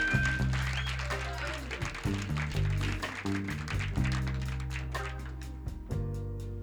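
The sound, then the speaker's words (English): Audience clapping for the band's guitarist as the band members are introduced rises as a steady patter over loud band music with sustained organ-like chords and a deep bass line, continuing for several seconds with no voices. “How about a nice round of applause for Floyd?”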